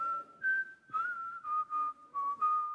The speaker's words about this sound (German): Sprach's, steckte die 2 Taler wieder in die Tasche und ging lustig pfeifend davon.